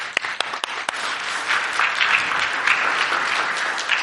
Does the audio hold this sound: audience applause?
yes